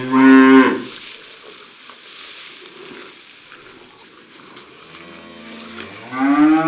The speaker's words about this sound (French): Comme elles font meuh, on dit qu'elles meuglent.